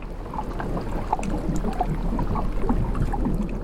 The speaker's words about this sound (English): And then out there I was able to record this wonderful sort of rhythm of the water backwards and forwards over the hydrophones.